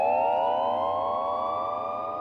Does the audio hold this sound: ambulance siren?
yes